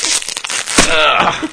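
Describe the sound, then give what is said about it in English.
Loud crinkling and crunching of a snack bag, dense crackly noise filling the upper range with a sharp burst partway through, continuous for over a second with no voices. “Ladies and gentlemen, the sound of way freshness. Better snacks bursting with flavor.”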